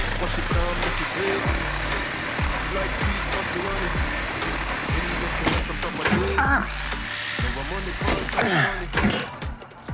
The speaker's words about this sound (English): With the reciprocating saw, Tyson cuts exhaust pipes.